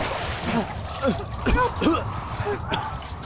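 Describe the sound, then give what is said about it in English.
Steady splashing and churning water from two people in the water fills the background while voices cry out for help in short, strained bursts over it, fairly loud. “What Sam Hill, the two of you doing? Get out of that water!”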